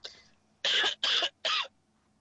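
Three sharp, close coughs in quick succession, each a short harsh burst, following a fainter raspy throat-clearing sound at the start. No talking.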